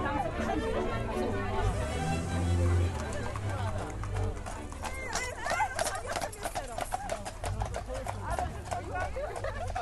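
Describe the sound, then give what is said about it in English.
Horses' hooves clip-clop on pavement in a quick, uneven rhythm, fairly loud, as about 16 horses pulling about 7 carriages pull up outside a house for a traditional Polish wedding, while a crowd chatters and murmurs outdoors around them. “And we're standing outside of my house right now, and the horses and carriages just pulled up.”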